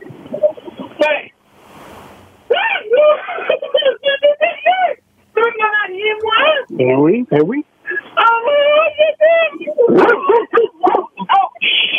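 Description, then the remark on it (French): A dog barks and whimpers in repeated excited, high-pitched bursts, nearly continuous over several seconds, with people's voices mixed in around it. “Il y a un chien qui s'en a rien.”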